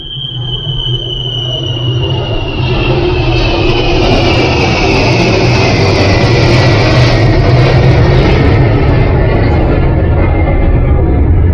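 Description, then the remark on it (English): A loud, steady roar of an airplane flying overhead, with a high whine that slowly drops in pitch as the engine noise swells and fills the whole stretch. “Expensive area, but at time to time you get disturbed by the planes flying over.”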